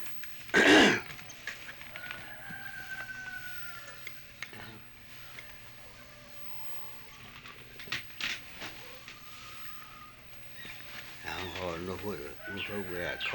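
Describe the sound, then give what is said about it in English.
A person hollers a call to sheep: one sharp, loud shout near the start, a quiet stretch with faint background sounds, then a wavering, sing-song vocal call near the end. “Do you know what they used to call sheep in, or what would you do if you had to call some sheep in? What would you holler?”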